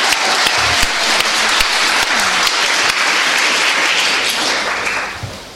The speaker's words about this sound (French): Applaudissons le Seigneur.